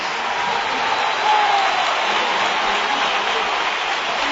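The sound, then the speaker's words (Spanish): A stadium crowd at a Betis match roars in a dense, steady ovation of clapping and cheering as Ceballos comes on as a substitute for Cejudo, with whistles rising faintly through the din midway before the noise carries on unbroken. “Ha habido pitos, pero la ovación pero ha sido atronadora.”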